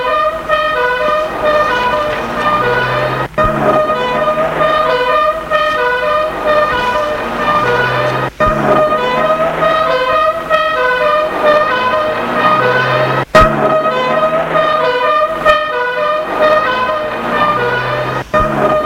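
Police cars race off amid a loud, steady blare of horns and engine noise that keeps up without pause, with a few sharp clicks cutting through. Nobody speaks.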